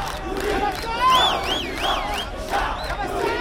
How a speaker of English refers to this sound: Here at Cairo's Bar Association, protesters climbed up on the roof where they shouted slogans at heavily armed police officers circling below.